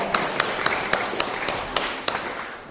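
Applause for a man visiting his mum: a steady hiss of clapping with about eight sharp, evenly spaced claps standing out in a quick regular rhythm, fading slightly at the end. No one speaks.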